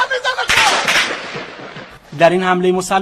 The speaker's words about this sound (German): als sie mit ihren Waffen das Feuer auf Teilnehmer und Zuschauer der Militärparade in der Stadt Ahvaz im Südwesten des Iran eröffneten.